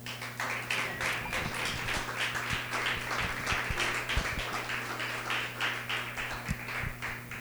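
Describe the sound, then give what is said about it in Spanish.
An audience applauds steadily for several seconds, a dense wash of many hands clapping with a few sharper, louder claps standing out. A low electrical hum runs underneath. “Ese aplauso fue para la burra.”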